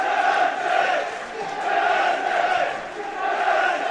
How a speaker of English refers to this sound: And FC, the FC faithful now cheering the side on.